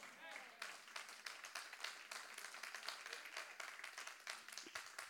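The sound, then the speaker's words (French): Thin, scattered applause from an audience, a modest crowd clapping in an uneven patter that stays fairly steady for several seconds before tapering slightly. “Ça, c'est un applaudissement de l'été, mais vous verrez qu'à la rentrée”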